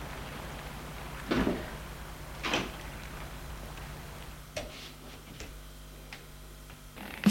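The unlocked door of a house is pushed open amid a few soft, scattered clunks and clicks spaced a second or more apart, fairly quiet against a low steady background hum, with no one speaking.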